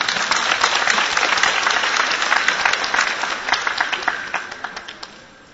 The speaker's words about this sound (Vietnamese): Nhưng mà dẫu sao ngồi suốt 3-4 tiếng đồng hồ như vậy thì tôi thực sự là cảm phục anh chị em, cho nên xin hoan hô anh chị em một cái đã.